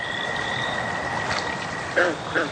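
An American toad gives a long, steady, high-pitched musical trill that holds unbroken throughout, while two brief louder warbling calls break in near the end over a soft hiss.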